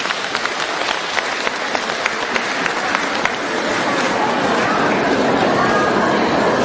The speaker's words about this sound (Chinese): 让我们用掌声感谢慈悲的卢军宏台长。